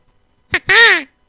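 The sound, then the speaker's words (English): A hunter's crow call is blown loud: a short clipped note, then one longer raspy, nasal caw that bends downward, with nothing else around it. “You interrupted me with a crow call.”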